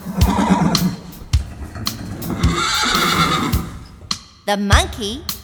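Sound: horse neighing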